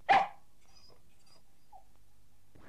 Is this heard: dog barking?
yes